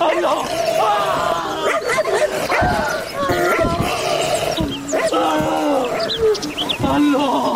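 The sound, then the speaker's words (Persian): A dangerous dog barks loudly and repeatedly at close range in sharp, irregular bursts, mixed with agitated human voices shouting for people to come and tie it up. “او مردم، ای سگ از تیز بیاین بستهش کنین.”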